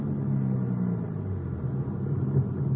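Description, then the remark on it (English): A car's engine rumbles low and steady as it rolls slowly into a parking lot at city hall at 5:15 p.m., fairly quiet, with no one talking. “5:15 p.m., we got back to the city hall. The car pulled.”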